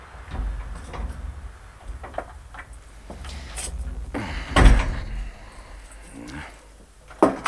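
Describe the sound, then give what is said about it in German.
A phone booth door rattles and swings with a few knocks and scrapes as a man goes into the booth, then shuts with a solid thud midway, followed by a last sharp clack near the end; no talking. “Er geht in die Telefonzelle.”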